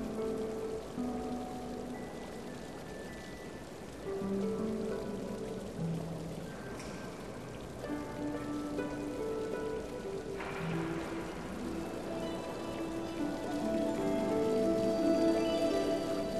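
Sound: cascading waterfall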